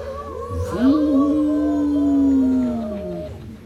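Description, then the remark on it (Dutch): A group of voices, children and adults together, howl like a wolf in one long sustained wavering howl that rises and slowly falls, loud, ending after a few seconds. “Zullen we allemaal als een wolf huilen? Kinderen en ook de grote mensen.”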